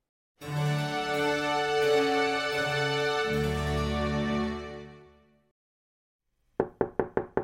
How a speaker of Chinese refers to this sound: 伴随着一阵大力的开门声，在门后的妙妙鸭看起来一副博大高兴又疲倦的样子。